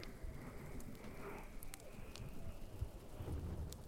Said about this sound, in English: Even with this loud thunder outside.